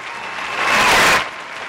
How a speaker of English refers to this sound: And that's 100% correct. Everyone get off your ass and cheer.